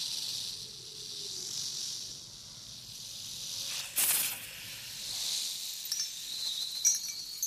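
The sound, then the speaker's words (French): A snake hisses steadily, a sustained airy sizzle with a sharper, louder burst midway. No one speaks. “Un trou dans le sol ! Et ces imbéciles de fétiches qui sont trop gros pour entrer ! Serpent !”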